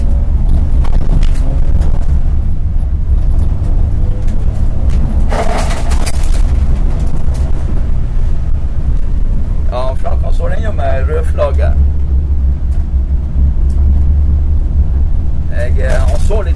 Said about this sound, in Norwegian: Og ja, vi er på andre runden, i hvert fall med opptakeren her, og jeg synes jo det går akkurat sånn fort sånn, sånn at jeg har herredømme over bilen. Men det er ikke sikkert alle har det, de som kjører rundt her, det er bare full gass i banen også.